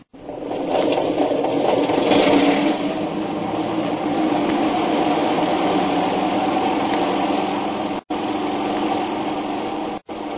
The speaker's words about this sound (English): Wait a minute. There comes a plane in now. We can't take off.